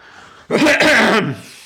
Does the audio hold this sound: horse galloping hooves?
no